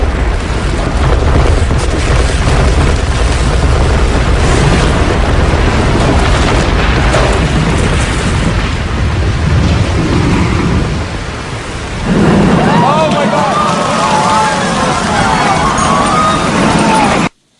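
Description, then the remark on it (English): World Trade Center Building 2 collapses in a long, loud, thunderous roar of popping, rumbling and crashing glass for about twelve seconds, briefly easing before a renewed roar mixed with shouting, screaming voices of people. “And this one is audio of World Trade Center Building 2 coming down and the sequential popping of all of the charges.”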